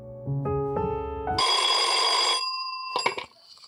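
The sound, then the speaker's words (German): A telephone rings with a rising run of electronic tones leading into a bright, sustained ringing burst, then a short second ring, clear with no talking. “Und wenn sie sich mal nicht sehen können, dann telefonieren sie.”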